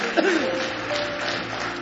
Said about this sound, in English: Give me one more hand clap of praise if you love him.